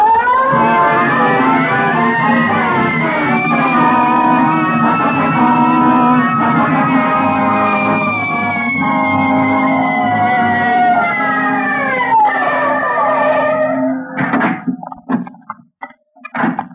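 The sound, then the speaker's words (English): A police car siren wails loudly and continuously, its pitch sweeping slowly up and down over a steady engine rumble, then cuts off abruptly before a few sharp thumps. “Red light siren.”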